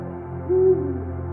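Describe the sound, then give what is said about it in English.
Two owls on a branch hoot: a low, mellow owl hoot swells briefly over a steady humming, tonal background, with no voices present. “Moments later, the second owl lands on the branch, and a chorus of hoots ensues. At first, the music of the owls is a language not known.”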